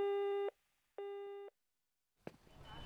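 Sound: answering machine beep tone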